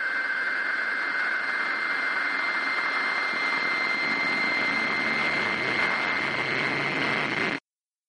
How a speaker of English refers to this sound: Static sounds like rainstorms.